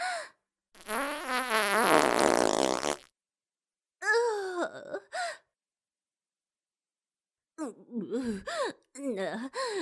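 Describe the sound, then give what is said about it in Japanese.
A long, loud, sputtering fart from someone who is constipated rumbles for about two seconds, followed by a few breathy vocal sighs and moans with brief pauses between them. “我ながら便秘中のおならにはへきへきいたしますわ。”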